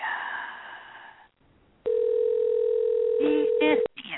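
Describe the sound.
A steady, unbroken telephone dial tone hums for about two seconds as a phone number is being called after a stretch of talking, with a voice briefly speaking over its end before it cuts off.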